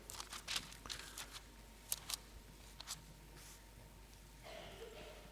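Scattered papery rustles and crinkles of thin Bible pages being turned and handled as listeners open to Matthew 24 to read along come in irregular bursts, with a soft hiss of background noise between them.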